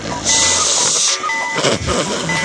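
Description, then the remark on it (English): A loud, odd comic sound effect blending cuckoo-clock tones with a flatulent rasp: a sharp hissing burst first, then warbling tonal notes and buzzy, blatting sputters, with no talking. “Sound effect for the opening of the great thing, and I a cuckoo clack mixed with flatulence.”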